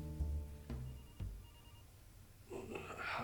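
signal or alarm, cell phone ringing

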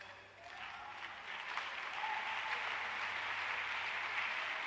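crowd, audience clapping

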